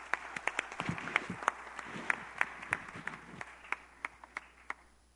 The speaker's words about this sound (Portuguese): Deus abençoe e aplaude o Senhor pela vida do pastor.